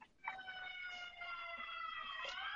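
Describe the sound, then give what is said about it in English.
A fire truck siren passing outside sounds continuously, a bright, harmonically rich tone that holds steady and then slowly slides lower in pitch, with no voices over it. “And that's the fire trucks.”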